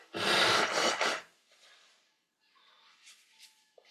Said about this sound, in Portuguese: Fazendo uma respiração profunda. Vamos respirando profundamente.